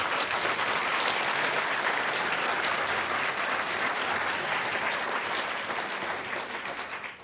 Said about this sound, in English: Tonight we're joined by all 16 mayoral candidates, as you can see. So, exactly, let's get started. Let's give the candidates a big round of applause.